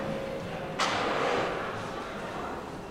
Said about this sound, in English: Match strike. Let's start by striking a match.